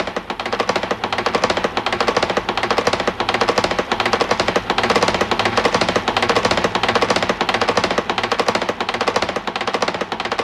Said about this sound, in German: Es ist 12 Uhr. Sie hören die Karfreitagsratschen aus Seckau.